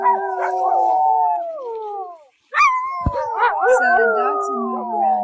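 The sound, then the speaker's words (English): Several dogs howl together in a loud chorus of long, wavering tones, breaking off briefly before a second overlapping round of howls rises and carries on. “So the dogs can move around different times.”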